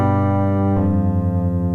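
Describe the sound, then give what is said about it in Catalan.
A sustained organ tone from an improvised electronic keyboard set to an organ sound for Sant Antoni, rich in steady harmonics, holding one chord that shifts slightly partway through, loud and continuous with no voices. “Li he posat un òrgan avui, perquè com que va a Sant Antoni...”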